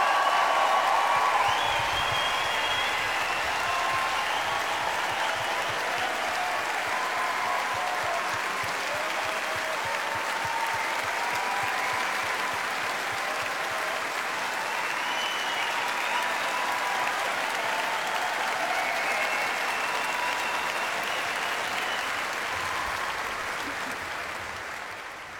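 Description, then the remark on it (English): Sustained, dense applause from a large audience for an orchestra, a steady wash of clapping that holds at an even level for about twenty-five seconds before tapering slightly at the end. “Before we close tonight, I do want to take a moment and indulge in one more hearty round of applause for the finest orchestra in the land, the ….”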